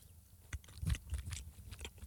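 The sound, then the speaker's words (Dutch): Wet chewing sounds of someone eating with the mouth shut, a run of soft crunchy bites and squelches repeating irregularly over a couple of seconds, with no talking. “Ik maak gewoon veel lawaai terwijl ik mijn mond dicht eet.”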